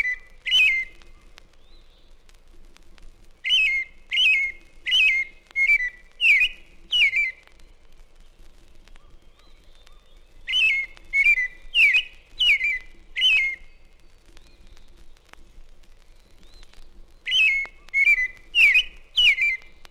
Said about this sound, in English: Next, the familiar roundelay of a robin that concludes by scolding a screech owl.